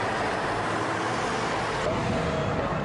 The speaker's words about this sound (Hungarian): Nem tudunk átmenni a másik oldalra, várni kell, mert annyi özönlik az autó. Ráadásul nagy a zaj és a szmog, szinte élhetetlen a város, állítják a sásdiak.